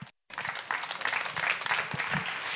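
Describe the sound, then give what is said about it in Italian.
An audience at a festa breaks into applause for itself after a brief silence, a dense, steady wash of many hands clapping at once, moderately loud and sustained to the end. “Allora, buon pomeriggio, benvenuti, è arrivato il momento di intanto fare un applauso a voi, che è quello che facciamo ogni volta.”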